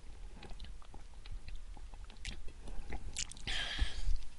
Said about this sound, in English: Okay. Needed a drink of water there.